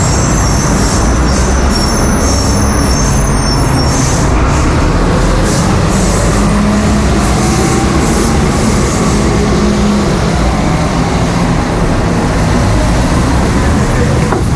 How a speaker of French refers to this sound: Il y a des bus toute la nuit. On les entend d'ailleurs là, il me semble, hein, les bus à Buenos Aires.